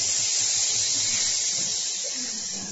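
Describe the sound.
A crowd of people imitates snakes hissing together, a loud, steady, breathy hiss that fills the whole clip without pause and fades only slightly at the end.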